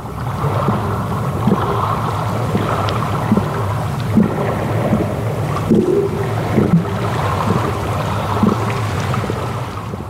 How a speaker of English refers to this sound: And then the closer you brought it to the surface, the more kind of wavy, lappy sounds you got, the kind of more traditional sea sounds. So it was a very cool piece of kit to use.